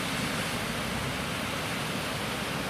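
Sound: ocean waves and surf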